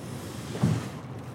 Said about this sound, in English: Then it's time to carry the canoe down to the river's edge